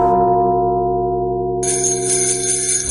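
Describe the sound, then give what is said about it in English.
Bells from a bells-only Christmas music collection ring out a Christmas carol tune in loud, sustained tones, with a bright, shimmering jingle joining in about halfway through. No voices are heard. “That's the magic of ….”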